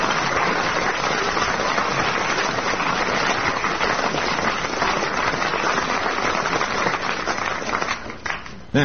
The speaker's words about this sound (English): Give a round of applause